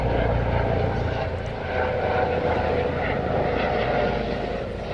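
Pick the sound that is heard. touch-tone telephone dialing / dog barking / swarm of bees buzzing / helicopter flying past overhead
helicopter flying past overhead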